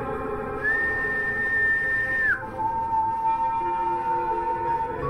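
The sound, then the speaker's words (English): Two long whistled notes, a sustained high tone that slides down into a steady second pitch an octave lower, held for a couple of seconds each over a constant low background hum. “Whistling. The second pitch an octave below the first”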